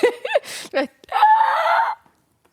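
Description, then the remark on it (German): A person vocally imitates the screams of turtles mating: a few short, choppy squawks and gasps, then one long, strained, nasal wail held for nearly a second, loud. “Hast du schon Schildkröten bei dem Geschlechtsverkehr? Bei Geschlechtsverkehr. Boah, krass, richtig krass. Beobachtet. Sehr laut. Die schreien auch.”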